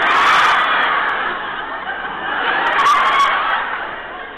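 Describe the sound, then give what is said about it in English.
A large audience at the San Diego Naval Hospital cheers and shouts in a dense, sustained roar that swells, dips briefly in the middle, then rises again, with scattered laughter and whoops mixed in. “What a great reception I got when I arrived here today.”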